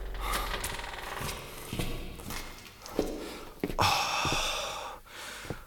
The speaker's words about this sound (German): Da öffnet sich eine Tür.